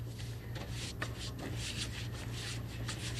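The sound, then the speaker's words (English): Steady swishing and rubbing strokes of a brush spreading lots of paste over flock wallpaper as a paper hanger papers a room, continuing throughout over a faint low hum, with no one speaking. “Very well, we shall watch the paper hanger paper the rest of the room.”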